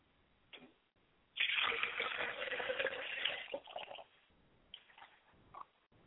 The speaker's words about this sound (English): Now, as I get ready to prepare this service, I am getting the water ready so that I can purify myself.